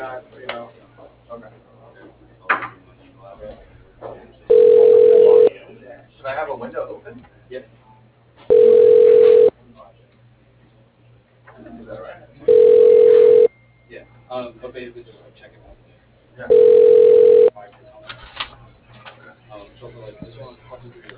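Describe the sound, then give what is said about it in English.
A telephone line rings four times while a call is transferred to voicemail, loud steady tone bursts about a second long, evenly spaced roughly four seconds apart, with faint murmuring and line noise filling the gaps between rings. “Okay, let me transfer your call to his phone, to his voicemail, okay?”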